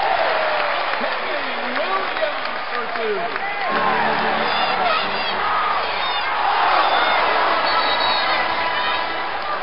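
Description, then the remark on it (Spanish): An audience shouts and cheers after an interview on Radio Colegio Virgen del Mar, in a loud, continuous roar of overlapping voices, with shrill whoops rising above the din and a swell in intensity toward the end. “Bueno, y tras el griterío del público aclamado, la gran entrevista que nos ha ofrecido”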